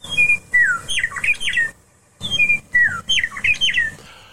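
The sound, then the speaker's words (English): A meadowlark sings two near-identical phrases, each of clear, flute-like whistles sliding downward into a quick jumbled warble, loud, separated by a brief pause, with no voices. “Well, ladies and gentlemen, give a listen to the meadowlark.”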